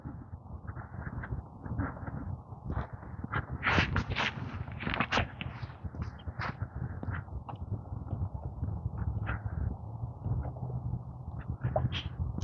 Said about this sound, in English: I hear little birds chirping. I don't know what kind of chirpage that is. Sparrows, I think. I don't see them.